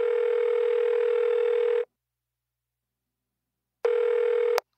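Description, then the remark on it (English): A telephone rings with an incoming call, a steady electronic tone in two long bursts separated by a silent pause, loud, with no voices. “I'm so happy you called me.”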